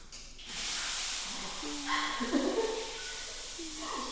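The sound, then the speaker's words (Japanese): A shower runs in a bathroom: loud, steady hissing spray of water that starts after a brief quieter moment, with faint whining tones rising and falling beneath it. “うるさい、シャワーの音うるさい。”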